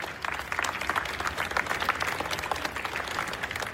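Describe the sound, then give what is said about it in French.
The Russian people on the Palace Square of the Winter Palace applaud the tsar as he appears on the balcony, many hands clapping in a dense, continuous patter that stays fairly even in loudness throughout, with no voices standing out. “Sur la place du Palais d'Hiver, il applaudit avec enthousiasme le tsar lorsqu'il apparaît au balcon.”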